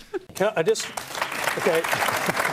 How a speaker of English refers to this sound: Yeah, and you should probably get a Q&A clap for his troubles.